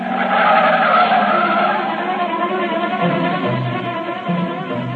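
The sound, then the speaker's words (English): A speeding car tears along with tires squealing loudly and continuously, the engine roaring before the screech wavers and settles into a lower drone. “before you know it, you've stormed out of the house, and you're taking it out in the car.”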